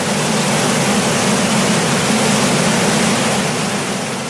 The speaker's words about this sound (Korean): 자, 탐사대는 옐로우스톤 강, 머라이어스 강을 지나서 6월 13일에 미조리 강을 가르는 대폭포에 이르렀습니다. 일행은 장엄한 자연의 모습에 입을 다물 수가 없었습니다.